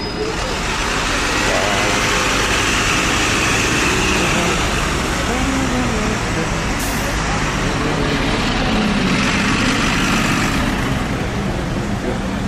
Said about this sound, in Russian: Автобусы двухэтажные, но это туристические.